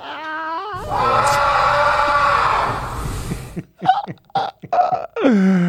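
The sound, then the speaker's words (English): A loud, raw primal yell of heartbreak bursts out and holds for nearly three seconds, then breaks into short, ragged vocal bursts and a final rising wail. “The yell of heartbreak, according to Inigo Montoya.”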